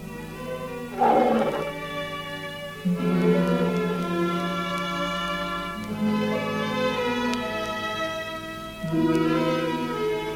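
A tiger named Rajah at the Struțchi circus roars at night in long, deep, drawn-out bellows, about four in a row spaced a few seconds apart, loud with no voices.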